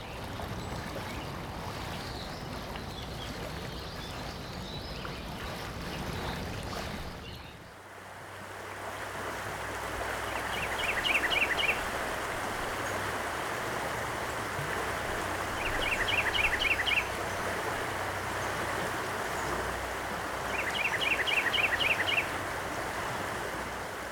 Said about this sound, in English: You heard the Roanoke River in the city of Roanoke, followed by the Stanton River in the Campbell County town of Alta Vista.